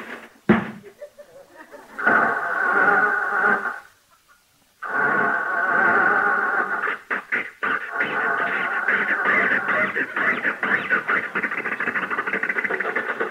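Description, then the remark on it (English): A car door thumps shut, then an engine turns over into a rough, buzzing roar, cuts out briefly, and sputters back to life, running on steadily with uneven popping and rattling. “Jump in, Rochester, see if it'll start.”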